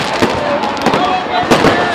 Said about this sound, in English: Yet another New Year is here. It's hard to believe, but it's true. And we have fireworks going off all around us.